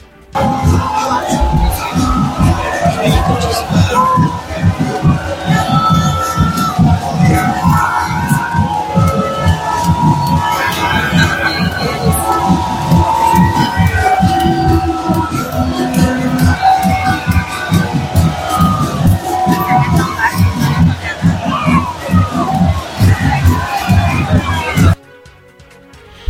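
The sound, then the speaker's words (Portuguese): A large crowd murmurs and shouts, with a subdued, timid booing aimed at the mayor and a former mayor of Salvador mixed into the din. It stays steady and fairly loud for about twenty-five seconds before cutting off abruptly. “Quase com uma vaia tímida, né?”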